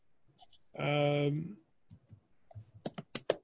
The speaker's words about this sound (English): somebody's typing away and is hearing it.